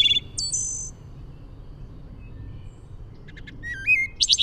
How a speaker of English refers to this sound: There's this wonderful Zen parable. What's that you said? Asked the Zen master. You say you've heard hundreds of birds sing? Ah, but have you heard the bird or the label?